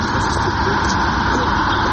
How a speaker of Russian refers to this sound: Смотри, машина